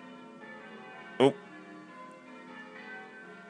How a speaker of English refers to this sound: They've actually warmed up a bit, but when they first started, it was really sort of... Brung, brung, brung. Yeah. It's like, yeah, how not to start your bell ringing? Yeah. Whoops, kind of thing.